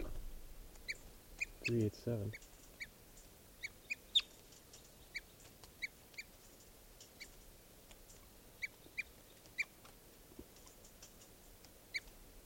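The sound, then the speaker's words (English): A small bird gives a steady series of sharp, high-pitched alarm chips, roughly one per second, fairly faint against quiet outdoor background, with a brief low rustle early on; the alarm calls are given because a hawk, a sharp-shinned or Cooper's hawk, is still present. “That hawk is still here, and these are the alarm bells.”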